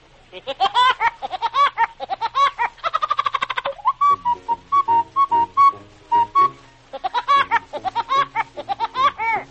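A cartoon record of the character Woody Woodpecker, voiced by Mel Blanc: bursts of rapid, high, cackling laugh-like syllables frame a stretch of short, steady whistled notes in a bouncy rhythm, with no speaking voice.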